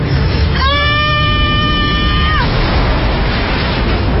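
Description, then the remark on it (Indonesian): A person screams in fright on seeing a black, human-shaped figure floating behind a woman: a single loud, high scream holds a steady pitch for about two seconds, then cuts off, leaving a constant rough background hiss. “Spontan aku berteriak.”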